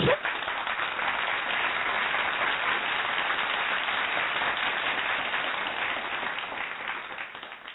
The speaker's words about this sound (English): First off, we need another round of applause here, because I'm back.